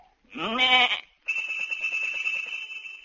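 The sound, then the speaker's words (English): A sheep gives one loud bleat, then its bell, tuned as part of a chromatic scale, rings on steadily with a rapid, rhythmic clanking pulse for a couple of seconds as a shepherd knocks the sheep on the head with his crook to make it ring. No voices. “He say, a lot of sheep have bells, for this sheep are tuned, so as to make the chromatic scales, which he makes use of by knocking the sheep on the head with his crook, a signal to them to ring the bell.”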